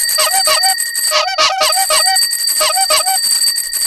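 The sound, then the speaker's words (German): A loud, busy clamor of bicycle bells ringing over and over in quick bursts, mixed with honking horns, filling the whole clip with no voices. “Ein lautes Konzert von Fahrradklingeln und Hupen weckte sie.”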